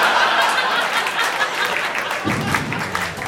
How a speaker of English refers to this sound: Save your clapping for a better cause. Oh, yeah. And all that cheering, you know, that's just the icing on a cake that I don't want to eat.